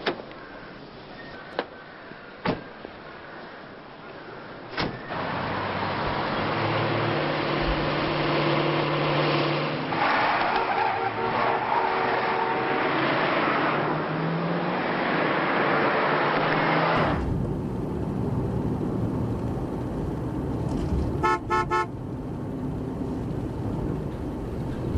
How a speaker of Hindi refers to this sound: क्या तुम्हें नहीं लगता कि तुम गाड़ी तेज चला रहे हो? ध्यान से चलो साहब, स्पीड मीटर को ना देखें, यह हर 20 किलोमीटर को 30 किलोमीटर दिखाता है।